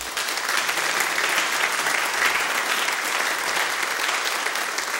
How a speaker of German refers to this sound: Der Applaus täuscht. Viele der Honoratioren im Publikum beben nämlich vor Wut.